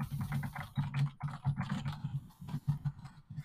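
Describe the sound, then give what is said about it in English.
Rapid, continuous typing on a computer keyboard said to have whisper keys, with dense clacking keystrokes in quick irregular bursts, fairly loud, with no voices. “Now, there is one thing that I don't like about it, and I'll go ahead and hit some of the keys. They say that it has whisper keys.”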